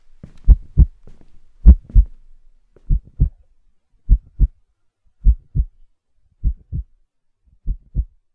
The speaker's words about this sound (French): C'est la sorcière. J'ai peur. Mon cœur bat très fort.